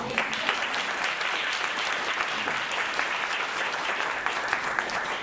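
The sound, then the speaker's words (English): Steady audience applause for two speakers' comments fills the whole stretch, a dense wash of many hands clapping at a fairly even, moderate loudness with no voices standing out. “yes, you can clap them first.”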